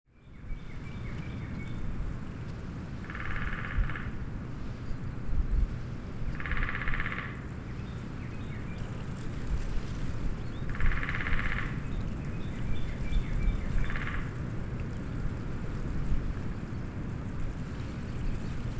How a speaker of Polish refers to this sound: Dzięcioły to ptaki, które mają bardzo mocne dzioby i mogą nimi uderzać w pień drzewa. Uderzają w pień drzewa tak mocno, że robią w nim dziuple. W lesie możemy usłyszeć stukanie dzięcioła w drzewo.